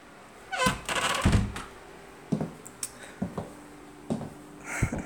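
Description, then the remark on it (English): An office door is pushed shut with a soft swoosh and a solid thunk, followed by several quieter knocks and latch clicks spaced out over a few seconds. “Shut the door behind you, please.”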